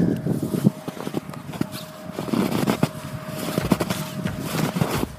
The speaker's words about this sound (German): Also hier ist richtig bestimmt metertiefer Schnee, wahnsinnig toll. Und ich muss jetzt für euch mal dieses Geräusch vom Knirschen aufnehmen.